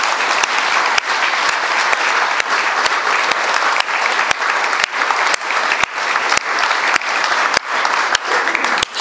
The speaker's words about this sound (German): Und ich denke, jetzt können wir mal alle einen kräftigen Applaus spenden.